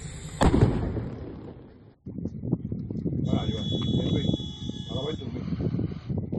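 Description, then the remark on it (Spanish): A sharp, loud blast rings out near the start, followed by a steady roar of crackling and popping bursts, a thin high whistle midway, and faint voices in the background, as a fishing boat moored at the dock in Camariñas burns around 2 a.m., carrying oxygen and butane cylinders. “Una explosión y grandes llamas, y es que el pesquero tenía varios elementos de riesgo como bombonas de oxígeno y de butano.”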